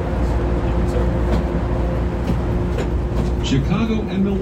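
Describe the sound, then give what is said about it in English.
Train doors closing, with Chicago and Milwaukee as the next stop, amid a steady low rumble and electrical hum, with a brief rising electronic tone sounding near the end. “Doors closing.”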